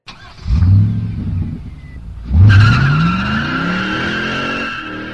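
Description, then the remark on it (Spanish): A car engine roars and revs, briefly eases, then surges again with a steadily climbing whine as the car turns onto a highway, accelerates hard and races off. It is loud, with tires squealing. “Apenas el carro embocó la carretera, pareció que le crecían alas.”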